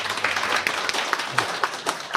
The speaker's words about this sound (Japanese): お母さんの方、立ってください。お母さんの方、はい、ありがとう。ちょっと お疲れ様の拍手をお願いします。